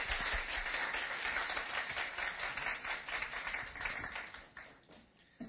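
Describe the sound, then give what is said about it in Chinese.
A crowd breaks into steady, dense applause to welcome a speaker, many hands clapping together in a continuous wash that holds for several seconds before thinning out and fading at the end. No one speaks. “好，我们热烈拍手欢迎他。”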